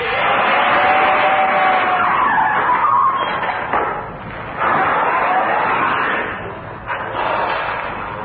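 A taxi's tires screech loudly and continuously as it skids to a halt, the high squeal wavering in pitch over several seconds with brief dips before surging again.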